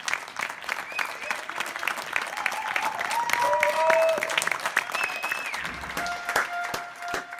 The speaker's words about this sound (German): Können Sie sagen, was das ist? Das ist ein Applaus, oder? Ja. Das ist ein ganz besonderer Applaus, der in vielen Städten in den letzten Wochen von den Balkonen zu hören war, nämlich Applaus für die Pflegekräfte.